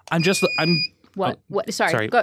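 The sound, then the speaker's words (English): A steady, high electronic quiz game buzzer tone sounds for under a second, overlapping with people talking, who keep speaking after it stops. “I take back my buzz.”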